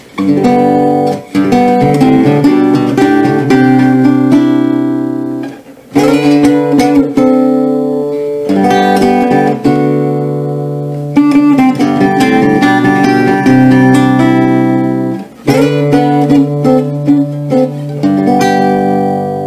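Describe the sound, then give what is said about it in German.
A guitar plays a catchy, self-composed theme melody in ringing, chord-rich phrases, each separated by brief pauses. Fairly loud, with no voices over it. “Ich habe auch eine Titelmelodie auf der Gitarre komponiert und einen Text dazu in einem Refrain-Reim-Muster A, B, B, A, A.”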